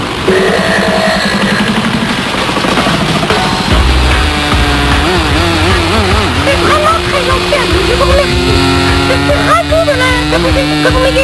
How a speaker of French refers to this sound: Ceci est une 911 turbo avec son moteur 6 cylindres à plat, 3X6, 2 turbocompresseurs pour 420 chevaux.